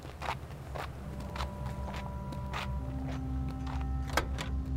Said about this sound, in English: Victor, Chen Wei, and I squeezed into the cramped cab of the truck. I made Victor sit in the middle.